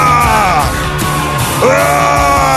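A man yells loudly in two long, strained bursts, his voice sweeping and wavering in pitch, close and forceful over a dense background of music or noise.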